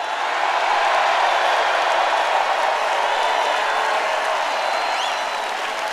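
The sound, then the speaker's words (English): A large crowd at President Trump's campaign rally in Grand Rapids, Michigan, roars with sustained cheering and applause, a dense, steady wash of clapping and shouting that stays loud throughout, with a few whistles rising above it. “That was enough for the president to celebrate at a campaign rally in Grand Rapids, Michigan.”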